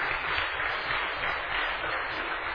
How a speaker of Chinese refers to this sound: 我们再次热烈掌声来感谢他，谢谢。